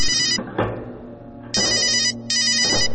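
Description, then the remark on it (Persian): A phone rings in three loud, bright electronic bursts, each a rapid warbling trill with short gaps between them, over a low background hum with no talking. “تلفنم زنگ میخوره و مشغول حرف زدن میشم”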